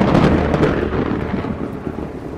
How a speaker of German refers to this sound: Ich fühle mich bei Gewitter ganz klein, weil Gewitter ist so groß und laut und Blitze sind so hell, dagegen sind wir ein Winzling.